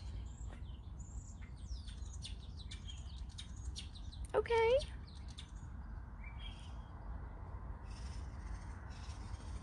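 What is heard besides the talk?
birds singing outdoors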